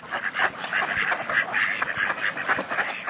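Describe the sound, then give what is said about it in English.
A male duck quacks in quick, raspy bursts, a steady run of calls that fills the whole moment, with no one speaking. “And many male ducks turn into downright dandies to attract a mate.”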